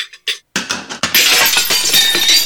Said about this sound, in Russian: Ой, кажется, перестарались. Битье посуды в программу не входило.